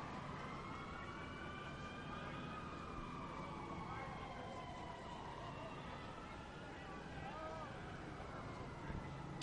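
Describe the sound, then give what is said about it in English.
Loud emergency sirens wail continuously as they go past a ballpark in Bradenton, their pitch slowly rising and falling in long overlapping sweeps, heard over a steady wash of crowd-like background noise with faint murmuring voices. “Some loud sirens going past the ballpark now.”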